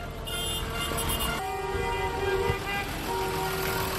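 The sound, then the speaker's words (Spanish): A tractor engine runs with a steady, droning hum full of tonal overtones, its pitch shifting down and then back up as the motor changes speed, loud and continuous throughout, as someone climbs aboard the tractor. “Me subo en este momento en el tractor.”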